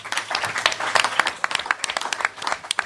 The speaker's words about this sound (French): Et surtout, c'est vous qu'il faut applaudir ce soir.